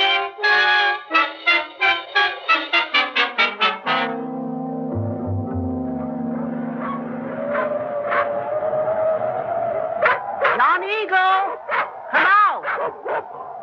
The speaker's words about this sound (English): Your dogs, call them off, please.